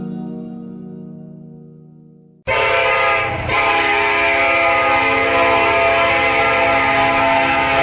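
A train horn blares with steady harmonic tones, then the loud rumble and clatter of a passing train swells in abruptly and roars on continuously, the horn still sounding over it. No one speaks.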